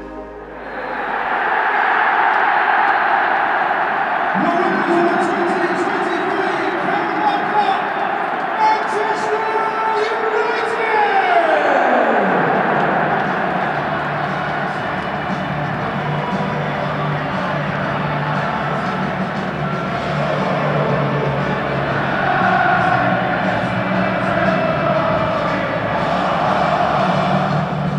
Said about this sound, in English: This is Talk of the Devils, the Athletic podcast dedicated to Manchester United, and that was the sound of the final whistle at Wembley Stadium as Manchester United won the EFL Cup.